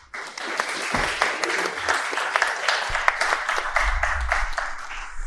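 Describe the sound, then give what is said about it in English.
A debate audience in Oxford applauds steadily for several seconds as the first speaker goes out to the stage, a dense, sustained patter of many hands clapping at a fairly even loudness, with occasional sharper individual claps standing out. “If you wouldn't mind applauding as he gets up, that would be brilliant.”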